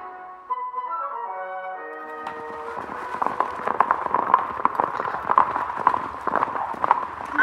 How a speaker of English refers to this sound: More than half a day's journey ahead of the Lone Ranger and Tonto, Bogus and Elk slow their horses to a walk to rest the animals.